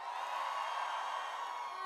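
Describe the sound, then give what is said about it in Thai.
A crowd cheers and shouts together in answer to the host's call for a cheer, a dense, steady roar with whoops rising out of it, loud and continuous across the whole moment. “สวัสดีว่าที่เศรษฐีทุกคนค่ะขอเสียงเศรษฐีทุกคนหน่อย”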